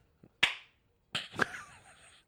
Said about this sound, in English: will only be responding in clap noise.